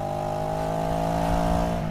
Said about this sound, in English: the motorcycle engine tracks reflected the actual bikes referenced in Robert M. Persig's original script